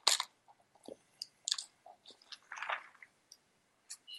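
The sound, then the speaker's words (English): A quick sip of a drink: quiet, wet mouth noises, small slurps and clicks scattered over a few seconds, then a swallow, with no talking. “I'm just going to take a quick sip.”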